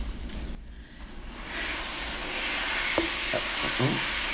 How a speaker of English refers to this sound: The sound of the blow dryer.